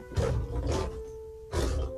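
A lion roars in three loud, rough bursts inside a library, the second and third separated by a brief pause, with a low rumble and steady hum underneath and no voices.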